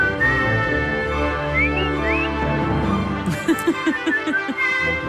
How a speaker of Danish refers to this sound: Er du ikke så glad for fløjtesangen? Nej, men det sætter sig bare lige, går direkte ind i sådan noget nervekammer ind i min hjerne, og så gør det ondt. Så jeg kan jo godt høre, det lyder fint, det går bare ondt.